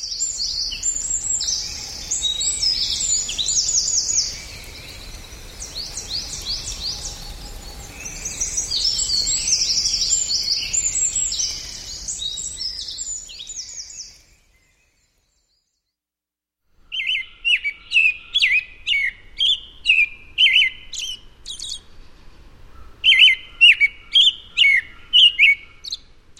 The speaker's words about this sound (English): Sound of the American Robin behind us right there in May in West Virginia.